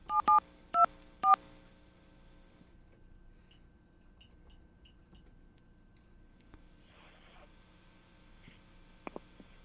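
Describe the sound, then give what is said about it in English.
Three short, crisp touch-tone beeps sound in quick succession as a phone call is dialed. A quiet line hiss follows, with a few faint blips and clicks. No one speaks. “And we're now going to place a phone call to somewhere in the world”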